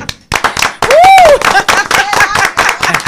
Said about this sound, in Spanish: vamos a aplaudir.